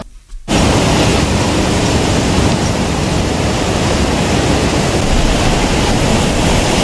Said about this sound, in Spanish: El sonido del mar embravecido en la ensenada de Ursán, donde tres policías perdieron la vida al ser arrastrados por el oleaje cuando intentaban rescatar a un joven estudiante.